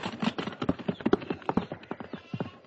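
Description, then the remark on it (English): Horse hooves clip-clop in a quick, steady trot, a dense run of sharp knocking beats that carries on throughout, clear with no voices. “Get thee gone, and hire those horses.”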